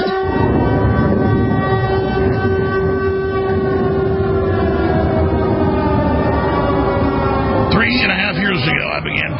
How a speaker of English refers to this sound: Sirens at the start of almost every show, telling you that real air raid sirens will soon be sounding, and now they are across areas of Europe and the Middle East, and soon in Taiwan.